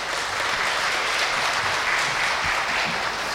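An audience claps steadily in a warm, sustained round of applause, dense and even throughout with no voices breaking through.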